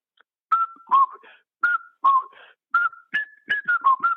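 A whistled waltz tune in short, clear mid-pitched notes, mostly falling two-note phrases repeated in a lilting rhythm, moderately loud, with no talking.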